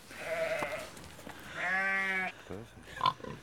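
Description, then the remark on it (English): Sheep bleat, one long wavering call after a shorter one, with a pig grunting and squealing at the end, outdoors at a city farm with some faint background noise. “Sheep and pigs.”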